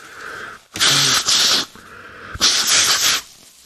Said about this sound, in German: Kleinen Moment, ich muss noch mal kurz schneuzen.